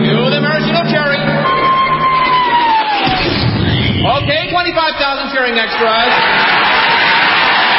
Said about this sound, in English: Then the Royal Canadian Air Force will fly overhead towing a 10-ton maraschino cherry, which will be dropped into the whipped cream to the cheering of 25,000 extras.